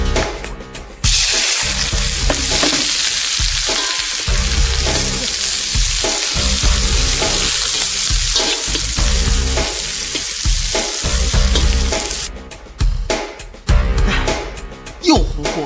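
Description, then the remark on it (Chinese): Loud, continuous sizzling and scraping of food being stir-fried in an iron wok, with metallic clatter of a spatula against the pan, bursts of hissing toward the end. “还在用铁锅炒菜吗？”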